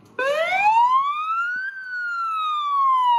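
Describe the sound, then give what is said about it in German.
A police siren wails loudly, its pitch sweeping up over a second and a half and then slowly falling, as six police patrol cars roll one after another through the township of Delft in Cape Town, enforcing a curfew; no voices present. “6 Streifenwagen rollen hintereinander durch die Township Delft in Kapstadt.”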